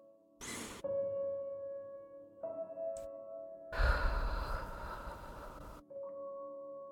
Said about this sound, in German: Und dann atmen wir dreimal ganz tief in den Bauch ein. Und zwar in den unteren Bauch.